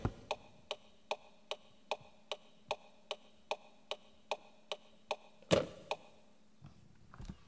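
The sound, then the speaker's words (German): A classic car turn-signal relay in the speaker's own car ticks in a steady, quick rhythm, about two to three clicks per second, crisp. It ends with a louder clunk and faint rustling. “das ist noch ein klassischer Taktgeber, da gibt es noch dieses hörbare Geräusch zwischen an, aus, hell, dunkel”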